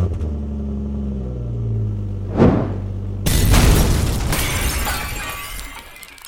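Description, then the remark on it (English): After the ignition key is turned, a truck engine idles with a low rumble, a brief sharp burst cuts in, then the truck explodes with shattering debris and a long roaring, crackling decay as it burns. “Tom sat behind the steering wheel of the truck for several minutes. Finally, Tom turned the key.”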